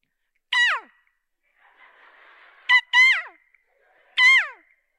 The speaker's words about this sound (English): Is that a bird? Yeah, it is. An Amazon one.